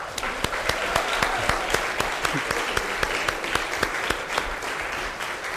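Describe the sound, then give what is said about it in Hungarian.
A crowd applauds steadily for audience members who scored 60 or more and stood up, many hands clapping at once in a dense, sustained wash of sound with sharper individual claps popping through, no talking over it. “Aki 60 vagy többet ért el, az kérem, hogy álljon föl, és tapsoljuk meg őket.”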